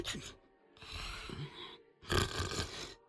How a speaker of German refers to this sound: Aber was ist das? Der Kopf ihres Lehrers ist auf seine Brust gesunken und er schnarcht leise.